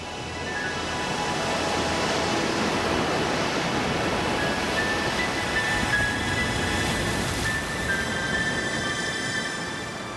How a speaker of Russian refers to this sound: Бирюзовое у берега, оно меняло цвет на насыщенно синий, там, где дно резко уходило вниз. Волны разбивались о камни, взрывались фонтанами белой пены.